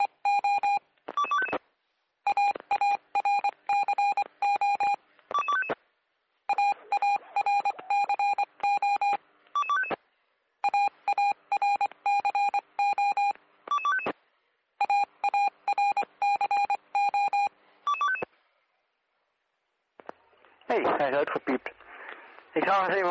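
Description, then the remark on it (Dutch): Repeated bursts of strange, interfering electronic beep tones on a radio channel, steady and mid-to-high pitched, arriving in rapid clusters separated by short gaps, ending in a wavering warbly tone. “Raar pieptoontjes in ieder geval.”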